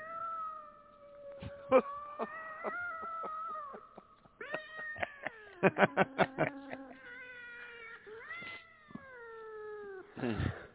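Several cats meow and caterwaul continuously, their long wavering yowls overlapping and rising and falling in pitch, with a burst of rapid, choppy cries midway. No one speaks.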